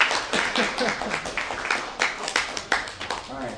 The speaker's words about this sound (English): So some of my comrades bravely dumped a bucket of water on the RCP table today, so we should give them a big round of applause.